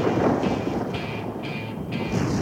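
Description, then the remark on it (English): A deep, sustained thunder rumble rolls through the whole stretch, heavy and broad with a windy, storm-like wash layered over it, fairly loud and with no voices. “The thunder boomed again.”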